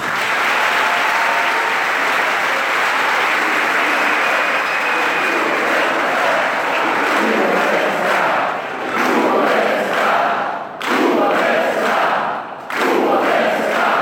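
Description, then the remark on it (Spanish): A large audience applauds the president of Cuba during his speech, in a dense, steady roar of clapping that runs unbroken for the whole stretch, with brief dips near the end before the ovation swells back up. “Varias veces fue aplaudido el presidente de Cuba, quien habló desde las emociones y la evocación al pensamiento del comandante en jefe Fidel Castro, líder muy querido por el pueblo portugués.”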